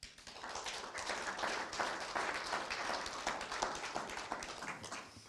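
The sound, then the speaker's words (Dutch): An audience at a municipal committee meeting applauds steadily for about five seconds after a presentation, a dense wash of many hands clapping at an even, sustained loudness with no voices over it. “Ik wou wel zeggen applaus, maar dat deden ze uit zichzelf allemaal al.”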